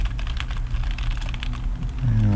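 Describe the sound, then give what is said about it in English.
Quick, steady typing on a standard Logitech rubber dome keyboard on a radio computer: a run of soft, muffled keystrokes over a low background hum that grows louder near the end. “It's your standard Logitech rubber dome keyboard.”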